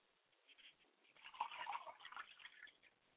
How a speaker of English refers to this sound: I say Ashe. I pour libation.